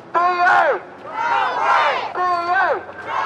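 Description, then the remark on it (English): A group of protesting British Airways cabin crew on an open-top bus headed for Heathrow Airport, London, shout loudly at their employer in strained, high-pitched voices, three rising-and-falling bursts of yelling that overlap one another with no clear words. “Not what you'd expect to hear from your friendly British Airways cabin crew, but they're venting their anger at their employer.”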